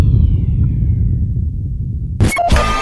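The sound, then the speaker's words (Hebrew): A low, steady rumble drags along, then near the end a sharp vinyl record scratch cuts in: a loud, gritty burst with quick pitch sweeps, lasting under half a second. “צליל חריקת התקליט. הסקרץ' הזה, אתה אוהב אותו.”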